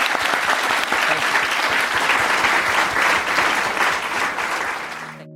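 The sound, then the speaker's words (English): Sustained audience applause for the speakers at the end of an LSE event session. Many hands clap densely and steadily at an even loudness, fading out near the end. “We've now reached the end of our session, so thank you very much for coming, and let's give a round of applause to the speakers.”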